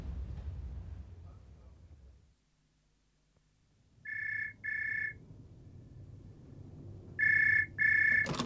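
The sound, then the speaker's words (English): A telephone ringing in two double-burst rings, the classic brr-brr pattern, clear after a few seconds of low rumbling handling noise and near silence. “But first, just to make sure she bites, I want you to make one little phone call for me.”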